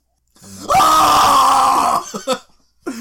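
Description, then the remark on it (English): A loud, sustained yell erupts, holding for over a second with a strained, raw tone, followed by a few short trailing vocal bursts. “So loud, so much yelling.”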